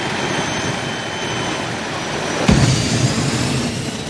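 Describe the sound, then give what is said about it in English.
A loud, continuous engine roar fills the air at a drag race, punctuated by a sudden sharp burst midway as a dragster, spewing flame from its exhaust pipe, blasts into a deeper, throbbing growl. No voices are heard. “She looks up as a dragster spews flame from its exhaust pipe like a rocket.”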